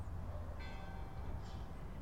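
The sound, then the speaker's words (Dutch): A small bell rings faintly for about a second, its bright metallic tones hanging over a steady low rumble of background noise, recorded in the food forest De Overtuin, part of Arboretum en Tuinen Trompenburg in Kralingen, Rotterdam. No one speaks. “Het klokje dat je nu op de achtergrond hoort was nog een van de subtielste achtergrondgeluiden, moet ik zeggen.”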